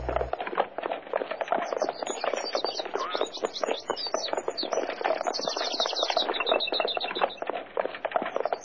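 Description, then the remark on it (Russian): Horse hooves clip-clop steadily and quickly as riders travel toward a monastery, a dense run of rhythmic knocks at an even loudness, with faint high chirps drifting above in the second half. “Долго ли еще ехать? Сейчас. У монастыря лошадок-то оставим, а там пешком, ваша светлость.”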